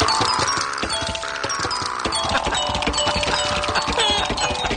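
A homemade electromagnet-driven glass xylophone plays a tune: quick, steady struck notes with bright ringing pitches over a busy clatter of mechanical clicks and knocks, continuous and fairly loud, no voices.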